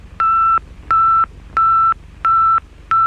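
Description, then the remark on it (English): Beeping radio signal from a Soviet satellite: five steady, mid-pitched electronic tones, each lasting about a third of a second, repeating in an even rhythm over a low background hiss. “What our forefathers faced in the first plane flight could be as nothing to what we are faced with as the result of these USSR signals.”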